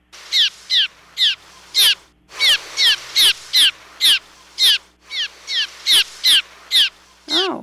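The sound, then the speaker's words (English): A rapid series of harsh, buzzy cliff swallow 'zeer' alarm calls, the swallows' danger call, repeated about fifteen times in quick even bursts with two brief pauses, fairly loud, played from a looped sound file. “One is the word that they use for danger, and that's this zeer call that they give.”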